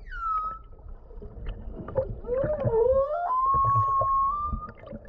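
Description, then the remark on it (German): Whale distress calls from whales in extreme stress, seemingly calling for help: drawn-out tonal cries that slide and bend in pitch, overlapping one another, over a steady low rumble of water and boat noise. “Wir haben beobachtet, dass sie zum Beispiel sogenannte Distress Calls machen.”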